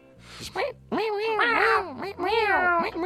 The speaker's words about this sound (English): There's this one song I made where the 808 is just like a cat meowing.